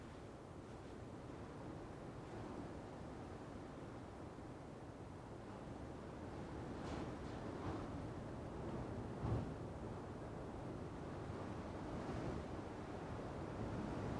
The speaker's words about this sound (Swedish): Jag tänker mig, ni som lyssnar på den här podden på kvällen och i den här tystnaden, ni kommer nog somna till det här bruset. Kommer vaggas i sömn av den här blåsten.